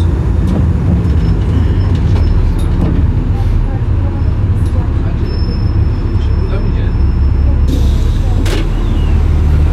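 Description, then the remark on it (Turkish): Inside a moving city bus: a loud, steady engine rumble and road noise fill the cabin throughout, with occasional rattles and a brief hiss, while passengers' voices murmur faintly underneath. “Şu kapı numarası nedir otobüsün?”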